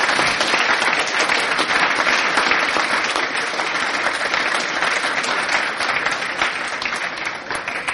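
Sustained applause from a large audience at an event, dense and steady clapping filling the whole stretch at a loud level, tapering only slightly near the end, with no voices heard, given for the people who make the events possible.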